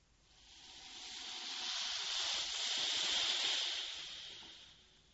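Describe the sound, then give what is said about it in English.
A steady, hissing spray of water from a hose as a car is washed swells louder through the middle and fades at the end, heard alone with no voices. “Wash the car.”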